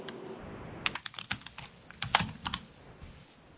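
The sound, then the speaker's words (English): Keys clatter on a computer keyboard as multiple meeting attendees type, in irregular bursts of sharp clicks, some louder than others, with no voices over a faint background hiss. “I see multiple attendees are typing.”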